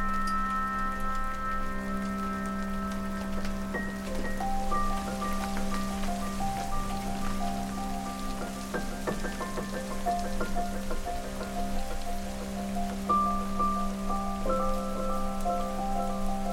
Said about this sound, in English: We got inside just as the first big, heavy drops started coming down around us.